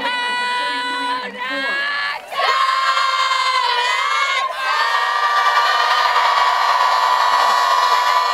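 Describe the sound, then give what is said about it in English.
A loud, continuous crowd roar of cheering and shouting voices, sustained throughout with a couple of brief dips before swelling back to full volume, at the Oregon Ducks' postgame celebration at home base after beating the Minnesota Golden Gophers. “The postgame celebration eventually carried the team to their regular spot at home base, facing the crowd and flashing the Oregon O.”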